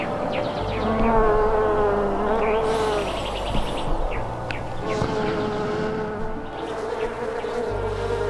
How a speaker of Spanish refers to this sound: Vamos a la colmena de las abejas usando este traje especial para protegernos de las picaduras. Muy bien, vamos.